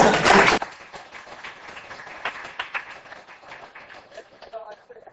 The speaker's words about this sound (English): But why don't we clap first?